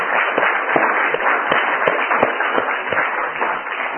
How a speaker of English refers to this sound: The mothers here to stand so that we can give them really some applause, appreciation for all that they do. All the mothers, please stand.